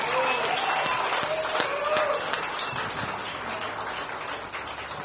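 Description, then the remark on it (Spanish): A crowd applauds loudly and steadily throughout, dense clapping filling the whole stretch, with a few whoops or high calls rising over it before it eases slightly toward the end. “Un aplauso para”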